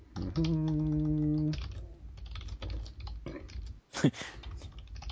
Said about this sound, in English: Actually, let me type something for just 1 second.